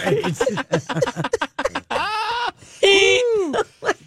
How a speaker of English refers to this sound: Are you making noises? Do we have a horse in the room? Yeah. What's happening? I'm hearing some moaning. Did you hear moaning? No. It's all the cars. It's not my gas.